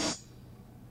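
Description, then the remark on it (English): A single open hi-hat hit from a drum machine: a bright, hissy burst of cymbal noise that decays within a fraction of a second, leaving only a faint low hum. “And these are open hi-hats.”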